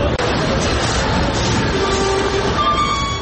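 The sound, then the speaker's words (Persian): A steady, loud rumble of heavy trucks carrying humanitarian aid rolling past as they enter the Gaza Strip through the Rafah crossing from Egypt, broad and continuous, with a sustained horn-like tone sounding over the engine noise in the second half. “صدای حرکت کامیون‌های حامل کمک‌های بشر دوستانه که از راه گذرگاه رفح در مصر وارد نوار غزه شدند.”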